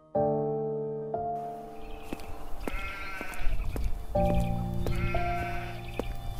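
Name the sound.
goat bleating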